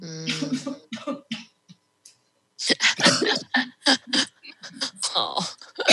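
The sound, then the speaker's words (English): A loud coughing fit from someone who has had the cough for a week: after a brief voiced sound and a short pause, a rapid string of harsh, hacking coughs follows in uneven bursts. “He doesn't cure cough.”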